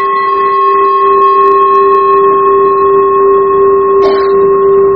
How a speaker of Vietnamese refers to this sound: Chuông là không có thỉnh ngang vậy, thỉnh như vậy là mình lật cái chuông, mình hất cái chuông lật, thỉnh xéo vậy nè, để mình đưa cái tiếng chuông nó đi lên, phát cái tiếng chuông nó lên.